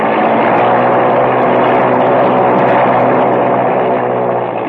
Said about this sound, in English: Well, she revs up okay